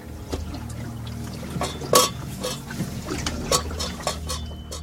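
Hot mint tea is poured at about 4 a.m. in an uneven stream, with soft splashes and a few sharper sloshing bursts over a steady low rumble. No one speaks.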